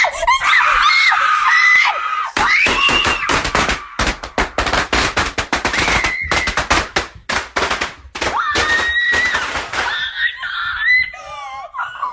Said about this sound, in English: This is a video that went viral over the weekend where a teenager, he looks like maybe he's 16 or 17, just lights a pack of firecrackers, drops it near his sister, and walks away.